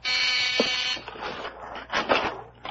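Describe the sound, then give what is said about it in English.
A front-door doorbell buzzer gives one harsh, steady electric buzz lasting about a second, rich in bright overtones, then cuts off, leaving softer scattered rustling and knocking noises. “That's the front door.”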